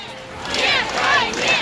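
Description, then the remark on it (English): A protest crowd in Moscow roars in a steady wash of many raised voices, swelling into loud overlapping shouts and chant-like cries that rise and fall without a break. “In Moscow, the crowds grew.”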